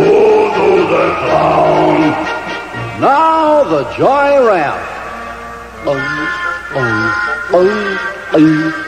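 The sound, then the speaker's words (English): A person imitates a lion's roar with a couple of loud, drawn-out growls that rise and fall, followed by more short voiced sounds. “Once again, the lion this time.”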